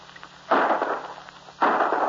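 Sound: gunshot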